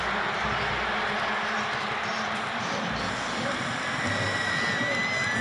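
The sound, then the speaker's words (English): A large stadium crowd roars steadily after Ogba's sack on third and 14, a dense wash of cheering and noise that holds at a loud, even level for the full few seconds without a break. “And that gets this crowd into it.”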